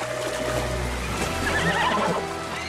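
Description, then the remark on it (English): A horse, Spirit, whinnies loudly up to a speckled foal on a ship, a wavering high neigh rising and falling over a low rumbling background of moving water. “Spirit whinnies up to him, and his mother gives him a nudge.”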